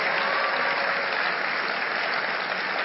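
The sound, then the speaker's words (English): A crowd claps steadily to honor God for a miracle, dense overlapping hand claps forming a loud, even wash of applause that holds at the same level from start to finish, with no voices standing out. “Clap, clap, clap for a miracle.”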